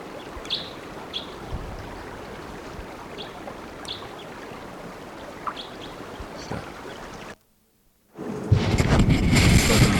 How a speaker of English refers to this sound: Still around, just sitting in the top of a dead lodgepole pine, giving me type 2 flight calls.